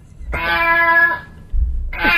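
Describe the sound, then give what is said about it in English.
A recording of a cat is played: a long, strained meow, then after a brief pause another loud, distressed yowl, harsh, with no one talking. “Turn those cats off.”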